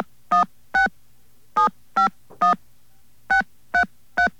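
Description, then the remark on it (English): Eight short, bright touch-tone beeps from a phone keypad as a disconnected phone number, area code first, is dialed into 9X's Call Mover Recording System, pressed in quick uneven groups with brief pauses between them, clear and fairly loud with no one speaking. “Please dial your disconnected phone number now with the area code first.”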